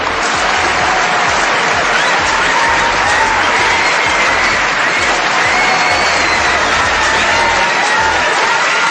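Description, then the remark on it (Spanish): Sustained, loud applause from a large crowd, used as the audio for the segment 'Noticias que te gustaría escuchar'. It is a dense wash of clapping that stays steady for the whole stretch, with faint whistles and cheers mixed in and no one speaking. “el audio de Noticias que gustaban escuchar era los aplausos de zona.”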